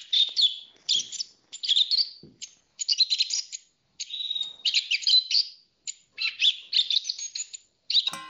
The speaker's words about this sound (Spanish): Castuera, ubicado en la comarca de La Serena, una zona compuesta por grandes espacios abiertos y llenos de encanto, donde se puede disfrutar de unas praderas verdes y un sosegado ruido de cantos de pájaros de varias especies.